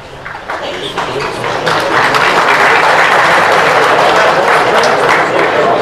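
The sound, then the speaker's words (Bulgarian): Audience applause at a VMRO party congress in Bulgaria: many hands clapping in a dense, steady wash that swells after the first couple of seconds and stays loud to the end, with no one speaking over it. “Благодаря за аплодисментите, че показват, че мислите като мен.”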